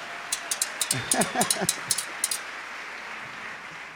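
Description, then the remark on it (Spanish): A small scattering of claps for a güira player after a merengue rhythm patters for about two seconds, briefly overlapped by a voice, then fades out, leaving only a low steady background hiss. “Muy bien. Aplaudan al güirero.”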